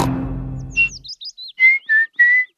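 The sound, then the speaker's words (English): Daddy Pig from Peppa Pig whistles a short, cheerful tune while reading his newspaper on a sunny morning: a quick run of rising and falling chirpy notes followed by three longer held tones, clear, after a brief low rumble fades out. “Whistling.”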